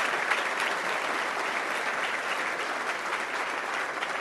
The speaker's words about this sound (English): Let's give them also a big round of applause.